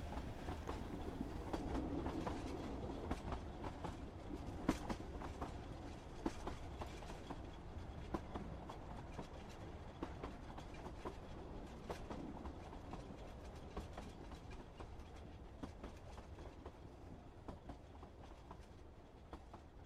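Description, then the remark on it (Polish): A train carriage rolls steadily along the rails, with a continuous low rumble and faint rhythmic clacks of the wheels over track joints, heard from inside at a constant, moderate loudness. “Na kolejnej stacji do naszego wagonu wchodzi kilku opryszków.”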